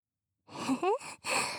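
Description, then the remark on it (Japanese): Breath blowing close into the ear during a whispered ear massage: two soft, airy exhales right up at the mic, the first carrying a faint breathy voiced tone, separated by a brief pause. “へへ、 吐息が当たって、ちょっとくすぐったい？”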